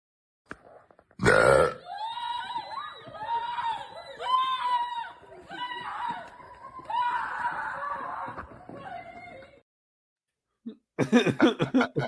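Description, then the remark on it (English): A long, loud, drawn-out burp that gurgles and wavers in pitch for several seconds, bracketed by short bursts of harsh noise at the start and end. “they were just upset about the burp?”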